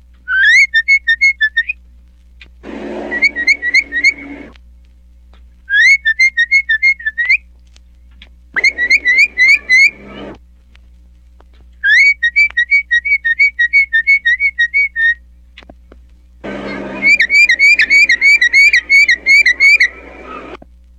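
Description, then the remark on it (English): A mockingbird whistles in repeated bursts of quick, rising-and-falling notes, each phrase lasting a couple of seconds with short pauses between, fairly loud, mimicking a person's whistle. “Mockingbird, when it comes to whistling, I'm going to give you the crown.”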